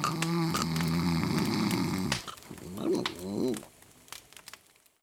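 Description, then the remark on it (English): A man, a grandfather asleep in front of the fire, snores loudly: one long, rattling buzz on the inhale, then a shorter, wheezy, whistling breath out that fades to quiet. “My grandfather is asleep in front of the fire. He's snoring.”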